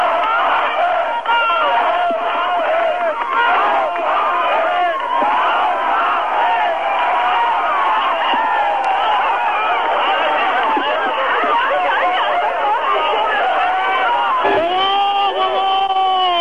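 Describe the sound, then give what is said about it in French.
A large crowd of thousands on foot shouts and cheers joyfully at a crossing point of the Wall as hundreds of cars arrive, a dense, continuous roar of many voices with sustained whoops and a car horn sounding near the end. “Des centaines de voitures, des milliers de gens à pied se présentent au point de passage du mur où je me trouve dans un concert d'avertisseurs et de cris d'allégresse.”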